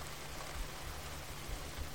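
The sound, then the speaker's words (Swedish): Steady pattering rain falling continuously, a dense even hiss of countless drops with soft low thumps underneath, enveloping with no voices. “Tänk dig nu att du sitter i ett tält, under ett plåttak eller inne, varför inte i en bil, någonstans där du kan höra regnets smatter.”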